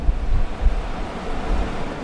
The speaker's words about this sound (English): So what you hear now, we see a drilling rig that's around 45 meters high, and we are drilling down to 2.5 kilometers, two deviated wells.